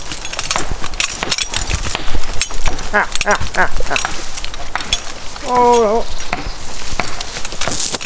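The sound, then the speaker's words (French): Heavy hooves clop steadily and irregularly as large work horses move about, with a brief voiced sound midway and faint background voices. “Alors, de là à vraiment travailler, à être, avoir fini sa croissance, des gros chevaux comme ça, c'est 6-7 ans.”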